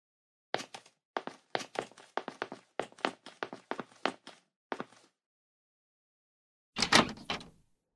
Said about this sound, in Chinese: 果然在家，怎么这么久才开门？